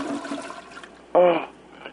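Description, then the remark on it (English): A toilet flushes with a rushing, gurgling wash of water, heard over a phone line while a caller uses the toilet, then a brief louder squealing surge near the end of the two-second stretch. “You know, I'm hearing a toilet flushing.”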